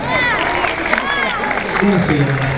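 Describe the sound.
An audience at an Italian election campaign event applauds steadily to welcome a speaker, the clapping blended with a dense murmur of cheering and overlapping voices, holding loud and even for the full couple of seconds.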